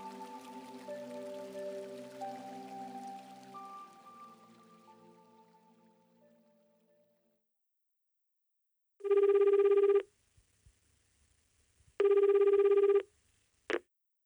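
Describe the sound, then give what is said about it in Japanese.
A soft musical chime fades away into silence, then a telephone at the Yume no Kizaka relaxation massage shop rings twice in loud, buzzing bursts a couple of seconds apart, followed by a sharp click as if the receiver is picked up. “お電話ありがとうございます。”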